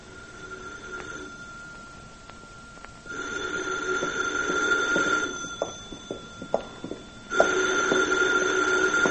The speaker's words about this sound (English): Why don't you get the phone